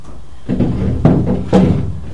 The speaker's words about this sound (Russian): Давайте все-таки я двери закрою, чтобы не отвлекали. Потому что сейчас буду к дверям подходить.